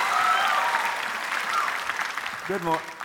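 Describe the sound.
Steady audience applause, a dense wash of many hands clapping at an even level for a few seconds, with a brief voice rising over it near the end.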